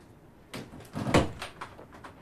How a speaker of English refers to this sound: Shane locks the door and slowly walks across the room.